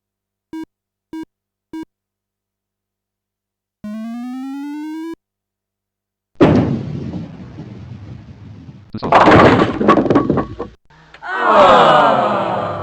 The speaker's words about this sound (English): The ball did not have enough spin. Your ball hit one lane to the right of the mark. 7 pins were knocked down with your first ball. The 2 8 and 10 pins are left standing.